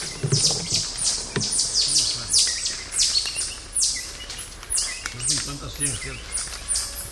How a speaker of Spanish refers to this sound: Posiblemente sea el grupo así o sea otro grupo de tití. Me impresiona que parece un pajarito. Sí, parece un ave.